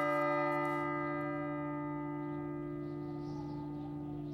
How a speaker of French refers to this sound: L'horloge de l'hôtel de ville de Versailles sonne 6 heures lorsque la grande porte de la cellule de Landru s'ouvre enfin.